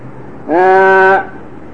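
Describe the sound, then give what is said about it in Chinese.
A single loud sheep bleat lasting under a second, rising sharply out of a quiet low hum and cutting off cleanly, with no talking around it. “哑羊僧就是好像那个羊啊，不会讲，连那个羊叫他都不会叫，那个羊会咩咩啊，他都不会叫的”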